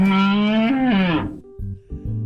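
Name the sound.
cow mooing sound effect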